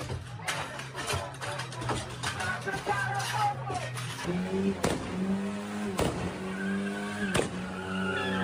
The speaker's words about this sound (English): That car backfired on purpose to symbolize Tyler Robinson's gunshot.